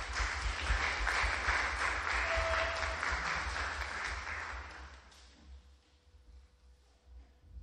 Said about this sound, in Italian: Se posso ancora, visto che noi ci siamo presi in maniera inopportuna sulla fiducia, direi un applauso